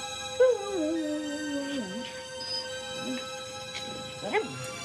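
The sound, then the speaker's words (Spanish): Barney the dog, tied up in the cable of Christmas lights and hung on the house porch in heavy snowfall, lets out a long, wavering whine or low howl, followed by a few fainter, shorter whimpers and one more brief cry near the end, over a steady background hum. “Billy se levanta, coge la bata y va a buscar al perro.”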